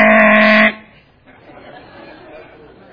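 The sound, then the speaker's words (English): A single loud, blaring air horn blast lasts under a second and cuts off abruptly, leaving a quiet murmur of background noise and chatter. “What's the air horn? You disqualified, DQ'd, you're out of here!”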